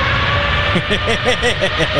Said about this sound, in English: There's an engine right there. There is an engine right there.